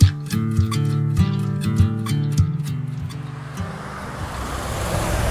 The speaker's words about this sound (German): Ja, ihr hört hier die Autos. Wir sind direkt an der Straße.